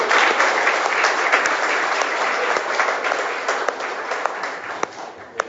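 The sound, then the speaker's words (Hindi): An audience applauds steadily, giving itself a hand for listening well, a dense wash of many hands clapping that holds strong throughout, with a few sharper individual claps popping out as it slowly thins toward the end. “I think you should give yourself a hand.”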